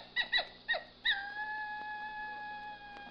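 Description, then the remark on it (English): Dingoes in the Australian desert let out a few sharp, rising yips, then settle into one long, steady, high howl that holds its pitch and slowly fades. No voices are heard. “Those dingoes, they sound like coyotes.”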